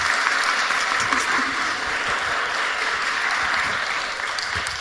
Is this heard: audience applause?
yes